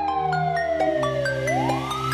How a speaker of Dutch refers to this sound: Ik hoor sirenes, ze komen er weer aan. Denk dit is menens, agenten in de zaak.